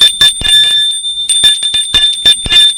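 A doorbell at an apartment door rings loudly in a series of quick, bright metallic bursts, its high tone lingering between strikes, with no voices present.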